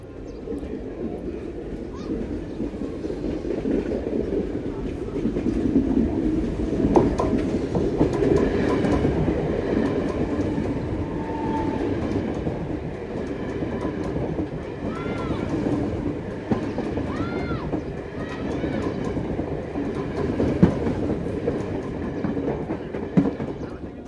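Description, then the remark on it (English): A train rolls past in Govindi, northern Bombay: a loud, steady rumble of wheels on track with rhythmic clattering and occasional faint metallic squeals, sustained throughout. “By the way, this place that I find so idyllic today is also where Parab lives, 10 feet away from the railway line.”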